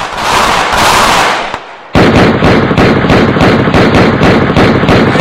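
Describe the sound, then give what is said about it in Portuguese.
Loud gunshots crack out in a rapid, sustained barrage, dozens of sharp bangs in quick succession after a brief stretch of roaring, rushing noise. No one speaks. “Bala! Tiro!”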